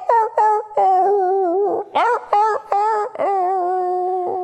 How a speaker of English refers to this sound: This was their rooster, who they call Ludwig, because every morning he'd go out and crow, and every morning he would go out and he would crow.